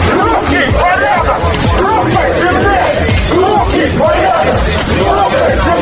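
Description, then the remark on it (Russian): A noisy crowd at the Russian March in Kirov, Russia, organized by a movement against illegal immigration: a dense, steady roar of many voices shouting and chattering over each other, loud and unbroken for the whole stretch, with occasional louder yells rising out of the din. “Так шумно в Кирове обычно проходит русский марш, организованный движением против нелегальной иммиграции.”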